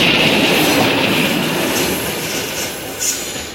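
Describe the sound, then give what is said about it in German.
Freight wagons roll steadily through the Limmatal freight yard, where arriving freight trains are split and newly assembled trains depart, with a dense, rumbling roar, faint rhythmic wheel clatter and thin metallic squeals drifting above, continuous with no voices. “Vorne fahren Güterzüge her und hinten fahren andere, neu zusammengestellte Güterzüge weg.”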